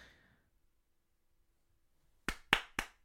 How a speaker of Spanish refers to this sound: Un aplauso. Es que ese aplauso queda muy triste, ¿vale? Imaginaos que hay una sala llena de aplausos.